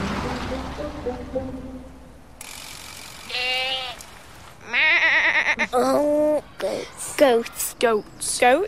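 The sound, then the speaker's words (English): Goats in the town of Llandudno bleat loudly, several wavering, quavering calls following one another in quick succession after a few seconds of low, rumbling background noise. “It was in Llandudno, and there's goats that live on the hills just outside, but they come into town, don't they?”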